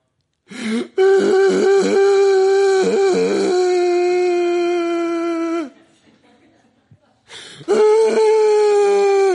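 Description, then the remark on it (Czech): A voice imitates a small child whimpering and crying: a long, loud, wavering wail, a brief pause, then the crying starts up again. “Dokud je dítě malé a má nějaký problém, tak udělá...”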